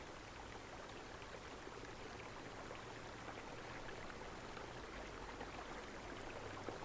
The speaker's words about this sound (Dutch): En dan stel je jezelf voor dat je wandelt op een paadje doorheen de natuur. En in de verte hoor je het geluid van een rivier. En je wandelt naar deze rivier.